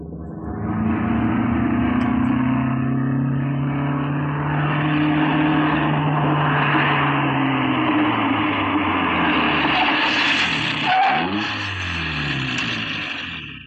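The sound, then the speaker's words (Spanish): A car engine hums loudly and steadily as the car drives through the large gardens of an oriental-style mansion in Chinatown, dimly lit by multicolored lanterns, its pitch slowly gliding, then it drops and shifts near the end as the car stops in front of a large hall. No one speaks. “El auto recorre los amplios jardines iluminados tenuemente por multicolores farolitos.”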